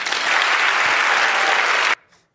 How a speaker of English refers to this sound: Somebody clapped for me on that. That was awesome.